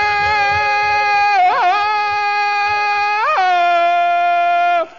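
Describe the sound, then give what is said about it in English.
Tarzan, held by a chain, lets out a loud, sustained ape-like scream in angry frustration, one long high-pitched howl broken by two quick yodeling warbles before it cuts off abruptly. “Tarzan, why you make screams like bull ape?”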